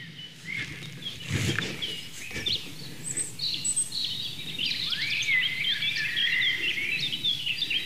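eurasian blackcap song

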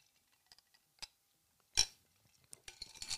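ice cubes clinking

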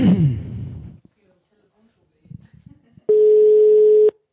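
telephone call ringing tone

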